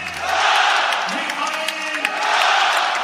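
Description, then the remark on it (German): A large stadium crowd in Basel roars and cheers continuously, giving thunderous applause as an FC Basel player is bid farewell, with dense applause and scattered shouts, loud and sustained for the whole stretch. “Und er wird hier verabschiedet unter tosendem Applaus hier vom Basler Publikum.”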